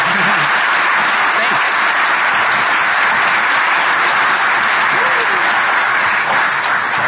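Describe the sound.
Sustained crowd applause at DEF CON for a first-time speaker, a dense, loud wash of many hands clapping steadily for several seconds, with faint voices murmuring underneath.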